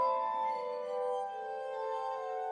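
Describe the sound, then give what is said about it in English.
A glass harmonica plays sustained, ethereal ringing tones that shimmer steadily, shifting to a new chord partway through. The notes are smooth and continuous, with no voices present. “Whatever Mesmer was doing with his patients in Vienna, it almost certainly involved his glass harmonica.”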